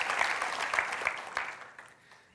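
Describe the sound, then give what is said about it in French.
A crowd claps steadily in dense, crackling applause for the volunteers, holding for a couple of seconds, then gradually thinning and fading toward the end. “Est-ce qu'on pourrait les applaudir ?”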